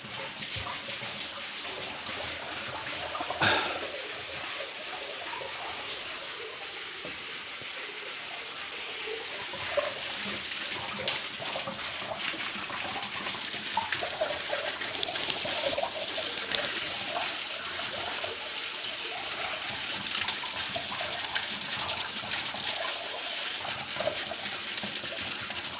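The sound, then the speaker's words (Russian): Spring water pours steadily into a bathing pool at a consecrated spring, a continuous splashing rush with faint trickles and drips layered in, even in level throughout, with no one speaking. “Купальня находится для мужчин, для женщин. Давайте зайдем и испробуем водиться в источнике.”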